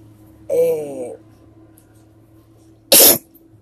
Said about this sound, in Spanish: Y realmente voy a seguir estornudando el resto de la hora o el resto del tiempo, ya ni modo.